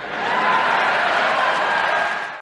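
An audience applauds in a dense, steady wash of many hands clapping at once, fairly loud and even throughout, with no voices, before cutting off abruptly at the end.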